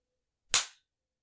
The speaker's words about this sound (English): I'm slapping your ass so hard it's making my hand hurt.